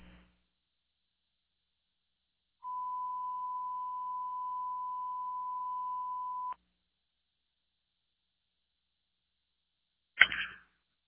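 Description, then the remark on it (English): A single long, steady radio alert tone, requested by the command post from communications, holds one pitch for about four seconds, then cuts off abruptly. After a pause of silence comes a brief burst of noise. “A long phone, please.”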